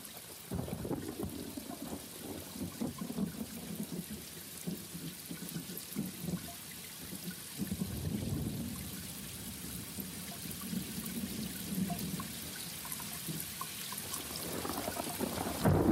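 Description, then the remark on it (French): Steady rain hisses continuously, with low rolling rumbles of thunder swelling underneath at moments; no voices, just a dense, even wash of falling water. “comme par exemple, tout simplement, le chant des oiseaux, des baleines, les cris des dauphins, les sons des vagues, les gouttes de pluie ou le souffle du vent.”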